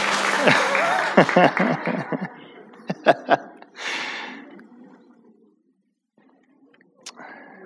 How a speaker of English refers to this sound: That was a thunderous round of applause.